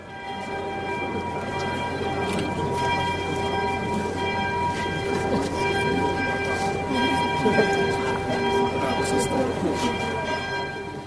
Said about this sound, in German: Die Glockengießerin war natürlich auch dabei, als die Glocken nach einem Festgottesdienst zum 450. Jahrestag der Wiederherstellung der Prager Erzdiözese läuteten.